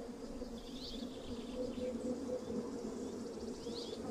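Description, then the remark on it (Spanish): A dense, unbroken drone of many bees buzzing at flowers fills the scene, loud, while a few faint bird chirps sound briefly behind it; recorded in Las Villuercas, Extremadura, 15 years ago. “Era un ruido, un muro de zumbidos que se interponía entre mi micrófono y las grabaciones que quería hacer, las voces de las aves que había detrás.”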